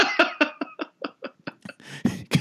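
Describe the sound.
A person doing an impression of Liza imitates coughing with a rapid, rhythmic string of about a dozen short, voiced hacks, fairly loud, ending in a few rougher, breathier bursts.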